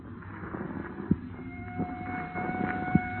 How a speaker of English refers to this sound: What is there about police drivers? Even out in the country, they got to lay on those sirens.